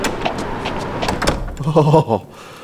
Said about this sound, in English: Barnaby Jones entered the sheriff's door without knocking